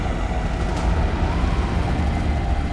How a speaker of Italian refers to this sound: Un piccolo aereo cerca strenuamente di non farsi trascinare via dalle raffiche. 2 impavidi motori attaccati alle ali, eliche incoscienti che fendono le nuvole nere.